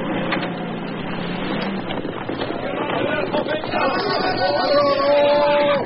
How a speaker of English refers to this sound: And listen, listen. These horses, I think. Oh, yes, many horses.